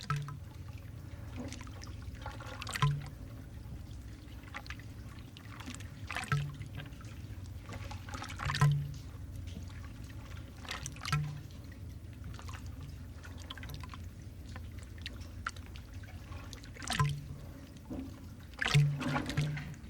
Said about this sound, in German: Diese benutzte der Künstler schließlich für Mikrofone, die verschiedene Perspektiven jeder Meereswelle aufzeichneten, die an den Pier schlug.